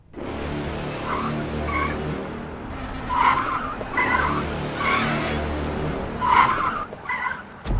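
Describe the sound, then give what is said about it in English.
Tires squeal repeatedly as a car skids, with several sharp, wavering screeches over a steady engine rumble, loud throughout. “I know those car movements.”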